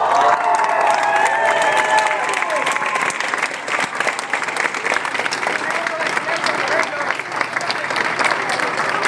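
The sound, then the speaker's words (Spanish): Sustained applause from an audience, a dense crackle of many hands clapping steadily for several seconds, with some voices and faint cheering mixed into the noise. “Porque querer tener un México mejor, yo creo que un aplauso para ellos por todo si es que no de la vida”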